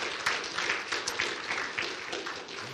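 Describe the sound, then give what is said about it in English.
A church audience claps steadily for a woman coming up to share a baptism testimony, a dense wash of many hands applauding at moderate volume throughout, slightly fading toward the end, with no clear speech over it. “How about give her a nice clap and say, thank you,”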